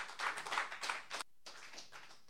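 A crowd applauds with a dense, crackling wash of many hands clapping at once. It is fairly quiet and steady, with a brief gap partway through before the clapping resumes. No one speaks.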